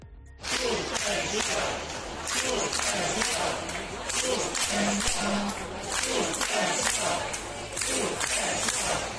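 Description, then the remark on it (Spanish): The audience in the upper tier of the Teatro Real theatre shouts and boos continuously, chanting "seguridad" in protest that the minimum safety distance is not being kept; a dense roar of many voices with rising, rhythmic bursts of yelling throughout, loud. “Y este domingo, en el Teatro Real, se ha suspendido la función que se estaba representando después de que el público de la zona alta se quejara con gritos y abucheos de que allí no se cumplía la distancia mínima de seguridad.”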